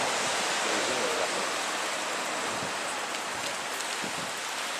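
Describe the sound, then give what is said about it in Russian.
A steady, continuous roar of ocean surf at Pleasure Point, a dense hiss of breaking waves with no distinct pauses between them and no voices. “Перед? Да, к океану.”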